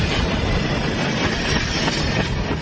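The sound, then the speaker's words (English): Freight train cars rumble steadily along the tracks through an empty, dusty brown landscape, a loud, dense roar with faint clanking and clacking of the wheels, continuous with no voices. “A distant rumbling turns into thundering crashes of train cars straining against each other at their joints.”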